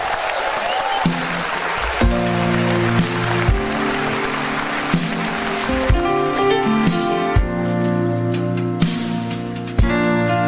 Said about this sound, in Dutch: Dan mag ik ook nog een heel groot applaus, alsjeblieft.